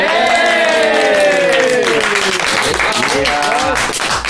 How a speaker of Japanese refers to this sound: 本日の旬ラジ長岡は、長岡造形大学の学生が街中をアートで彩るイベント、ヤングアート長岡2016についてお伝えしようと思います。はい、皆さん拍手。